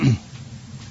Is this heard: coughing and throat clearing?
yes